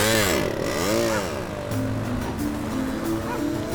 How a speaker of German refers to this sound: Aus der Ferne hörte man noch sein hässliches Lachen und kurz darauf erklang das Knattern seines Mofas, mit dem er davonfuhr.